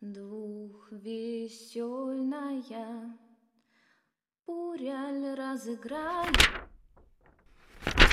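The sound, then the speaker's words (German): At dusk, a door creaks open in long, wavering, tonal groans, falls silent briefly, then creaks again before a heavy wooden thud and a second sharp knock at the end. “Als die Dämmerung hereinbrach, knarrte plötzlich die Tür und meine Undine trat ein.”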